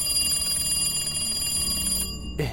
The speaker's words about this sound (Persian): که یهو تلفن زنگ خورد.